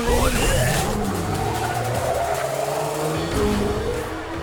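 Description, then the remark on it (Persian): Cars race past with roaring engines and screeching tires, skidding loudly and continuously with shifting pitch, the sound intense throughout. “نمیتونم جلوی ماشیناشونو بگیرم، حتما تمام تکنولوژی ازش خارج کردن.”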